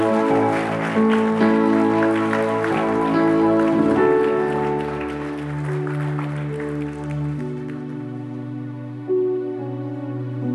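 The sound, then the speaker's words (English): A church audience claps as a praise offering to the Lord, in a steady, dense wash over sustained organ-like chords; the applause dies away after about eight seconds while the held musical notes continue alone. “Come on, just give the Lord a clap offering in here today.”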